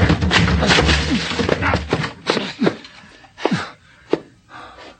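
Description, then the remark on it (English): A door is rammed with a shoulder: a run of heavy, irregular thuds and creaking wood, loud at first, then slower and more spaced out, with a few strained grunts. “Come on, we'll break it down. But the woman. Forget the woman. Come on, put your shoulder to it.”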